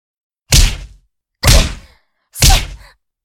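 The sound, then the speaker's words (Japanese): Three heavy punches to an unguarded face land one after another at a steady pace, each a loud smack with a short dull decay, separated by brief silences and no voices. “あたしのパンチが顔に当たるたびに情けない悲鳴出ちゃうね。”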